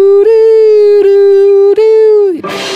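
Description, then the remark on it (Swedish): A loud, distorted sustained note is struck three times, ringing with a harsh buzzing edge, then bends downward and collapses into a dense wash of noisy feedback, a noise rock passage from a band's demo recording. “Och sen så har vi klippt bort på demon, så hör man en så här noise rock grej.”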